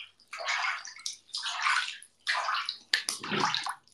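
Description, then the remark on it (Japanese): Water splashes and sloshes in four fairly loud bursts with short pauses between them, like hands swishing through a filled tub, made as ASMR water sounds during a chat stream. No voices. “これ ASMR なってる？どう？お水の音。”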